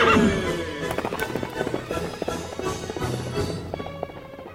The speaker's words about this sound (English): From out of the past come the thundering hoofbeats and the great horse Silver. The Lone Ranger rides again. Hi-yo, Silver! Away!